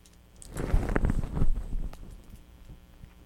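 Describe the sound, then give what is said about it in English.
A short burst of keys jangling and clattering, a rapid cluster of metallic clinks over about a second that fades into quieter rustling, with no one speaking. “I see the keys.”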